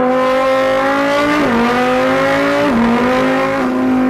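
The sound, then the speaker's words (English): A man's voice mimics a Lamborghini Huracan's 5.2-liter V10 engine with his mouth, revving up in a rising whine and dropping pitch at three gear shifts. Loud, with no other talking. “Starting off with the Lamborghini Huracan, this car comes with a 5.2 liter V10, and this is what it sounds like.”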